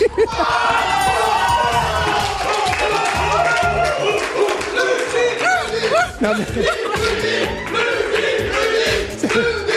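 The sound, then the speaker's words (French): A group of people, each standing on one foot, shout out answers together in a loud, continuous jumble of overlapping voices, energetic, with individual cries rising above the crowd throughout. “Ils étaient tous alors sur un pied d'appui comme ça, pied d'appui, puis crier les réponses.”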